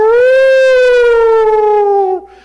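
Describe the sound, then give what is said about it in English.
A person vocally imitates an alarm siren, mimicking how Dr. Lindsay sounds the alarm in his presentation about a shortage of geriatric physicians and nurses: one loud, sustained, high wail that slowly slides downward in pitch for about two seconds, then cuts off abruptly. “Lindsay's presentation about this, where he sounds the alarm? I can't imitate Dick that well, but he does something like...”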